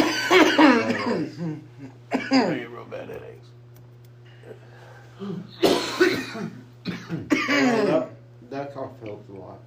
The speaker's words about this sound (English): That cough helped a lot.